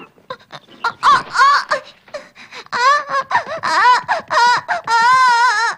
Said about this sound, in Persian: خیلی خوب دانی، دیگه گریه نکن